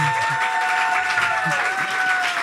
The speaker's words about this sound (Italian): Un applauso!